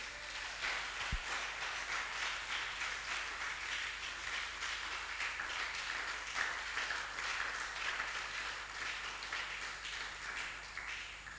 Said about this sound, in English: Oh, somebody must start clapping.